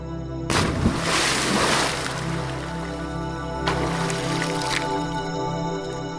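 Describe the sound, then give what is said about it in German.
A person takes a short run-up and jumps into warm water: a heavy splash bursts loudly and fades into churning sloshes, then a second, shorter splash follows, all over a steady low hum. “Entschlossen streifst du dir deine Schuhe und Kleider ab, nimmst ein wenig Anlauf und springst hinein.”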